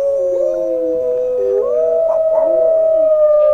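Wolves howl together in long, sustained, wavering tones that slide up and down in pitch, several voices overlapping continuously and fairly loud, with no talking.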